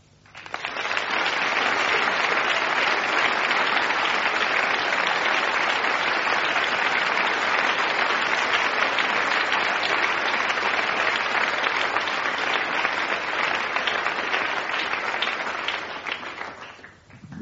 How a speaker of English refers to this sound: And as they all stand, clap until you leave, not die.